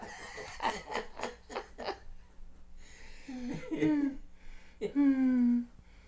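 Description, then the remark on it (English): A turkey gobbles: a quick, rattling burst of gurgling notes, then two louder, drawn-out warbling calls after a short pause. “They say the turkeys, well, what's that?”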